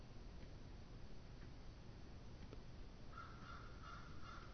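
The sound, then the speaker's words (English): Birds call faintly outside a window, a short run of about four repeated calls near the end over a steady hiss of outdoor background noise, with no talking. “Birds calling outside the window.”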